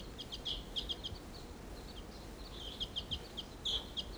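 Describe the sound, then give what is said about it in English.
A wild bird calls with rapid, high-pitched chirps in two bursts, a quick series at the start and another toward the end, over a low, steady rumble of background noise. “Wild bird, stop.”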